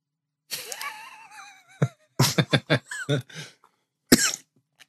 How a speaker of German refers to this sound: Du einen Hustenanfall gekriegt.